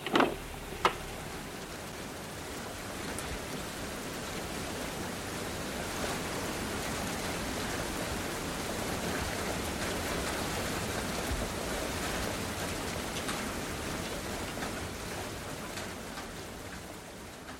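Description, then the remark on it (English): Steady rain falls continuously for the whole stretch, a dense hiss of drops spattering on surfaces, with a couple of sharper taps right at the start and no voices. “So it is with the blind person coming out of his house and into the rain.”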